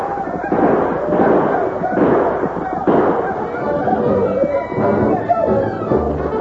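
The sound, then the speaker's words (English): Sharp rifle shots crack out in irregular bursts, loud and overlapping, while a crowd of voices yells and screams through a continuous, chaotic din, as Indians charge a barricade by a wagon in a battle and four men fire back. “The Indians charged toward the barricade, yelling and screaming, their rifles spitting death, but the four men drove them back.”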